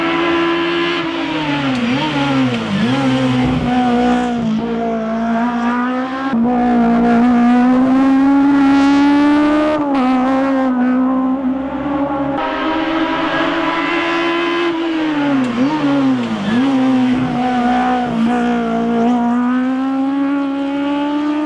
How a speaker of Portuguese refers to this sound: Pois bem, gente, esse motor aí também é um motor. É o mesmo motor do Uno nosso, é o motor que a gente conhece muito, Sevel, mas lá na Itália é o motor do Fiat 128, que é o que vocês ouviram aí. É um Fiat 128 de competição aí, em pista